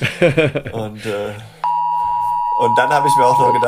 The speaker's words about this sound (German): Jetzt hört ihr gerade den 11 Uhr Signalton. Ja, jetzt ist hier bei uns Signalprobe für die diversen Sirenen und natürlich, das war mein Handy, ja, das hier kurz reagiert hat, ist Punkt 11 Uhr, ja.